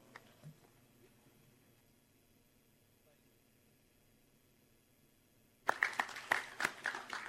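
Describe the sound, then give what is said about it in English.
A long quiet stretch with faint background murmur gives way near the end to a sudden burst of loud audience applause, a dense crackle of many hands that continues to the end, after a video of Director Kurlikowski of the White House Office of National Drug Control Policy. “The applause was very appropriate, not so much for Director Kurlikowski, but for what he acknowledged in that tape.”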